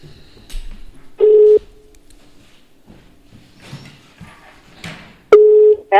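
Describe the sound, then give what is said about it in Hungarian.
A telephone call placed by a radio host rings through on the line: two loud, steady ringback tones about four seconds apart, with the start of a third, over faint background rustling and murmur. “Évát hívom telefonon, és megkérdezem, hogy mi az idei tanmenet.”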